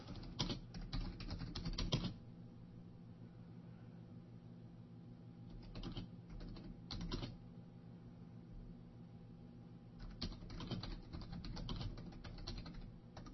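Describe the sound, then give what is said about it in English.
Bursts of rapid, clattering keyboard typing as someone searches for something, in three clusters separated by pauses, fairly loud over a low steady hum, with no one speaking. “Man, this keyboard's loud.”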